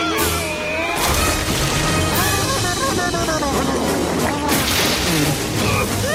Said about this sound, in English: They plummet to the river below. They bounce off some rocks, then roll into rapids.